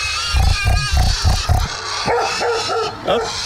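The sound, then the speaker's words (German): Loud grunting comes in a quick rhythmic series of about five bursts, then gives way to higher squealing oinks with a somewhat dog-like, yapping edge. No one speaks. “Das ist der innere Schweinehund.”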